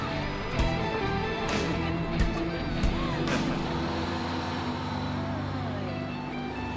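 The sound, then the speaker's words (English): A tram rumbles as it drives away from a store with Carmen and Junie aboard while Thumb Thumbs run past, a steady low mechanical drone with humming tones, a few sharp clacks in the first few seconds, then an even, continuous roll. “It drives away as Thumb Thumbs run past.”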